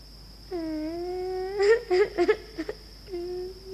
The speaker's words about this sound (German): Ein Minute, ich hör einen weinen. …, die weinst? Warum weinst die?